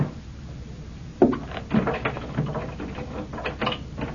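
A key rattles and turns in the lock of a door to a workshop room, giving a few sharp metallic clicks and scrapes spread irregularly over a few seconds, moderately loud, with no talking.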